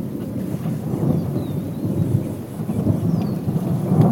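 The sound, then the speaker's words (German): Low, continuous thunder rumbles from a distant thunderstorm over a wide, open plain with umbrella acacias, a deep rolling roar that swells and fades over a few seconds, with faint bird chirps high above and no voices. “Es gewittert.”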